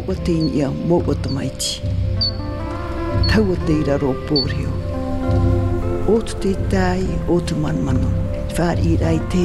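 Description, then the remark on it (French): Steady rain falls in a continuous patter beneath people talking, the wet hiss running throughout at a moderate level rather than standing alone. “Aujourd'hui, premier épisode, il pleut.”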